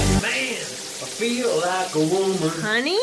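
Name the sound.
shower water running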